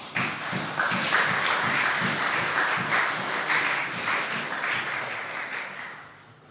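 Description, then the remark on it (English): A crowd applauds the dads on a Father's Day evening, a dense wash of many hands clapping steadily for several seconds before tapering off toward the end. No one speaks over it. “You should give them a clap because they're pretty awesome.”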